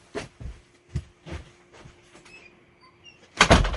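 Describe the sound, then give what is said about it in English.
A door is handled with a few soft knocks and rattles, then shut with a loud thud at the end. No one speaks. “let me just make sure, I gotta just close my door.”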